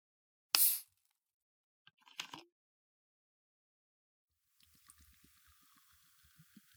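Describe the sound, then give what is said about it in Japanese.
A sharp hiss as a bottle of Fanta Fanta Orange, a sugary orange soda, opens, a short clinking rustle, then the fizzy orange soda poured into a wine glass, its soft steady crackle of bubbles continuing to the end. “そしてこっちは私のグラス。注ぎますね。”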